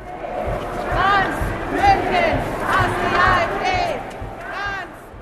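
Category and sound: crowd, protest crowd chanting slogans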